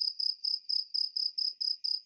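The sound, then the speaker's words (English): Crickets chirp in a steady, rapid rhythm, their shrill pulses repeating evenly about four times a second against an otherwise quiet background, moderately loud, with no voices. “Why am I hearing crickets?”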